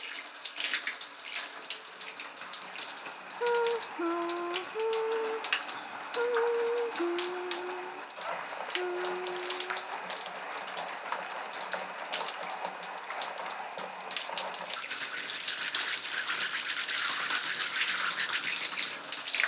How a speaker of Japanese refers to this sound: 頭をシャワーで流すので、目を閉じててくださいね。